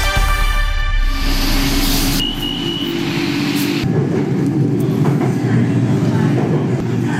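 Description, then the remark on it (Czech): A Bangkok elevated skytrain of the Bangkok Transport System in Thailand, raised 10 metres above the roads and sidewalks, hums and rumbles, its motor tone rising then settling into a steady rolling roar, with brief high electrical whines over the continuous rail noise. “Systém nadzemní dráhy, takzvaný Bangkok Transport System, je považován za nejefektivnější městskou dopravu ze všech metropolí jihovýchodní Asie.”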